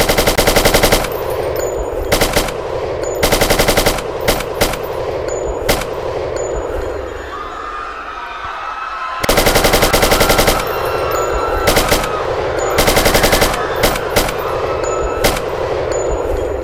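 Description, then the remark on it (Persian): Loud bursts of machine gun fire rattle in repeated volleys, separated by short pauses and a lingering rumble, with metallic pings in between and one long sustained burst midway; shooting by the Shah's forces on protesters from Pishva and Varamin, Iran. “اونجا هم یه تیراندازی و یه کشتار بسیار وحشتناکی میشه و جز اولین تظاهرات و راهپیمایی های شکل‌گیری انقلاب اسلامی اونجا رخ میده، توی ورامین، پیشوا و قرچک.”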